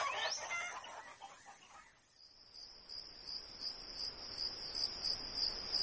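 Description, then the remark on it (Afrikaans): A brief burst of chickens clucking and squawking at the start as the chickens come out, then it fades, leaving a steady, high, pulsing chorus of crickets in the background. “Antie, die hoenders kom uit.”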